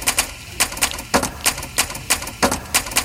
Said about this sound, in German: Ganz klar, eine Schreibmaschine aufgenommen in der Handelsschule in Krems. Da wird seit 150 Jahren Maschinenschreiben unterrichtet.